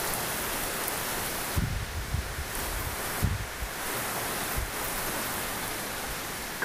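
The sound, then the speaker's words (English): Steady, dense hiss of rain pouring down at the front of a house amid strong winds, with occasional low thumps like wind gusts buffeting the microphone. No one speaks. “As the rain hits my vein.”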